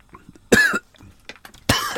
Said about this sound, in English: Oh, now I'm coughing.